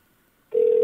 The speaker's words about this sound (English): Okay, it's ringing.